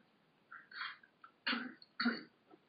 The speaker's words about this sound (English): I'm going to cough.